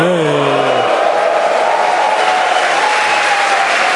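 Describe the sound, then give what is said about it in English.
An audience claps steadily for several seconds in applause for software that works, a dense, even wash of applause, with a brief tonal sound fading out at the very start. “Applause for software that actually works.”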